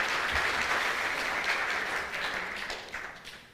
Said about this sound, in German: Vielen Dank euch, ich habe jetzt nicht mitgezählt, ihr habt beide gewonnen. Ja, großen Applaus für die beiden.